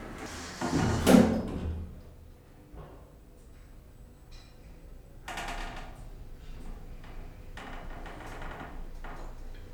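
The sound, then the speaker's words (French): Elevator doors slide open at the second floor with a loud rumble and rattle near the start, followed by quieter mechanical clunks and brief scraping bursts later on, with no one speaking. “Deuxième étage. Ouverture des portes.”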